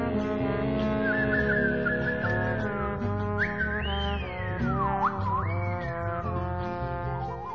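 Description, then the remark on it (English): A woman whistles a wavering melody with long sliding notes over a steady instrumental backing, the whistle clear and prominent throughout, with a slightly warbly, off-center record quality. “We're listening to the sonic whistling of a woman”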